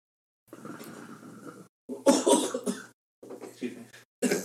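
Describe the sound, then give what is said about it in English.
A loud cough bursts out mid-clip after some low murmuring, followed by quieter rough throat noises and a brief sharp burst at the end. “Always got a cough once.”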